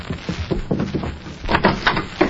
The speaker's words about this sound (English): When they come to the door, Meg, you open it